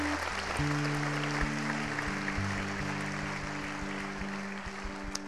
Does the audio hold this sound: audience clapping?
yes